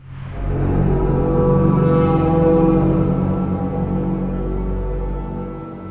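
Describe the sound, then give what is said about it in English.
An ancient horn is blown with lips around it, giving a deep, sustained blast for several seconds, rich with low droning harmonics and holding steady before slowly fading, alone with no talking over it. “You put your lips around it. And it makes this archaic yop.”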